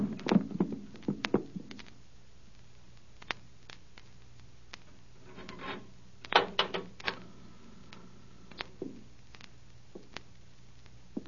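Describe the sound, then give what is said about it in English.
A knife is jammed into a wooden cupboard door that has no lock, to hold it shut: bursts of sharp knocks and rattling clicks at the start and again midway, with sparse scraping taps between, moderately loud, no voices. “Drive something in there. Here, this knife.”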